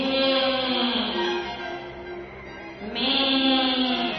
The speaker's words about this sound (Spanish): Ya no podía caminar. Lanzó un balido, rogando que le llevaran a casa.